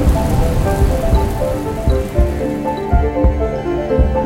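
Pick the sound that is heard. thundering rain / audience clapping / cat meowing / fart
thundering rain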